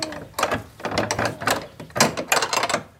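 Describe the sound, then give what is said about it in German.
A key scrapes and rattles in the old lock of a nearly 1000-year-old Romanesque grey stone church door, with repeated metallic clicks and clunks as the mechanism is worked and turned over about three seconds, ending in the bolt giving way. “Gar nicht so einfach, dieses fast 1000 Jahre alte Gebäude aufzusperren.”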